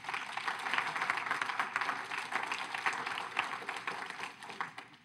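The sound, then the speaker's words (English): An audience claps in a steady, modest round of applause, a dense patter of many hands lasting about five seconds before tapering slightly at the end, with no voices over it. “That deserved a much louder clap than that.”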